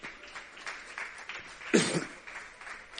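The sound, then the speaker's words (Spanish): Audience applause patters steadily for a few seconds, with a single louder cough or shout-like burst near the middle, as officials of the Ayuntamiento de Pájara and the Cabildo de Fuerteventura are called onto the stage for an inauguration. “pedimos, por favor, un aplauso también y que se suba sobre el escenario”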